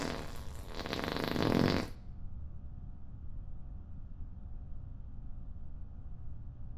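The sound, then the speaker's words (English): A loud, sputtering fart with a buzzy, rattling texture lasts about two seconds, then cuts off, leaving only a faint low rumble of background noise. “It's just a couple of farts.”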